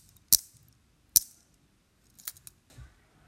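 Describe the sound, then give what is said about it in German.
Handcuffs clicking shut: two sharp, loud metallic clicks a second apart, then a quick cluster of smaller ratcheting clicks and a soft rattle. No voices. “Die Handschellen machten 5-mal Klick und die Sache war gelaufen.”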